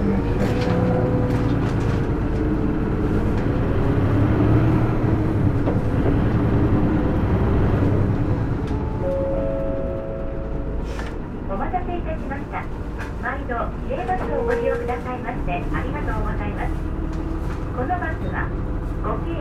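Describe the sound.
A bus departs from a stop with a loud, heavy engine rumble that eases into a steadier drone after about ten seconds, while a voice announcing the departure and some brief tones sound over the interior noise.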